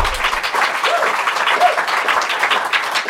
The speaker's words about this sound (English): So you see. Yes, go ahead, applaud.